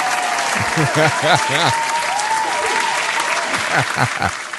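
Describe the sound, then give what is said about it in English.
A crowd claps loudly and continuously, the dense patter of many hands filling the space while voices shout and call out over the applause. “If your titties look like two big toes, clap your hands.”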